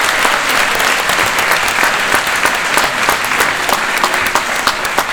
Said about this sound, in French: Et oui, vous pouvez applaudir, effectivement. Au final, vous êtes 36 candidats ce matin à être représentés. Donc je voudrais une petite acclamation pour cette mobilisation générale.